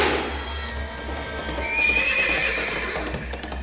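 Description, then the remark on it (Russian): A horse neighs loudly, a long shrill whinny with wavering high tones, over a steady low rumble and faint clip-clop of hooves. “Конь, как огонь, взвился под ним, и дед, что птица, вынесся наверх.”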